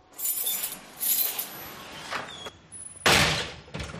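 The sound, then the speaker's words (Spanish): A metal prison cell door rattles and scrapes as it slides shut, with faint metallic ringing, then slams with one loud clang followed by a shorter clank. “Es el sonido del cierre de una celda.”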